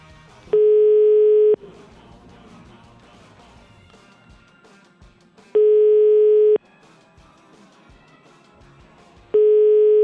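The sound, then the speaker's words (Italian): An outgoing telephone call's ringing tone for a scheduled phone interview: three steady one-second beeps spaced about four seconds apart, loud and clear, with faint background murmur filling the gaps between them. “Abbiamo un appuntamento telefonico e ovviamente speriamo che risponda.”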